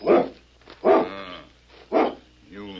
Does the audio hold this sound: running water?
no